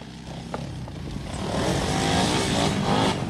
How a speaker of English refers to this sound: She turns her head at the sound of approaching motorbikes.